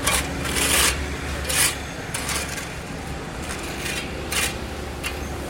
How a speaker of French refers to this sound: Regardez la pelleteuse, c'est un grand bras. Avec un poignet de grand humain qui fait des activités d'enfant, qui s'amuse dans le sable, dans la boue, dans la terre.